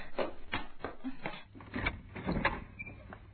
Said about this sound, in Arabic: هيا يا فاطمة، هيا أسرعي وافتحي الباب